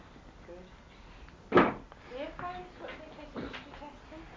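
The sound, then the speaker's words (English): A drawer shuts with a single sharp, loud bump after large roof screws are put away in it, followed by a softer knock a couple of seconds later, while indistinct voices murmur throughout. “Right, those things, I'm going to go up in your drawer. Okay, that's down.”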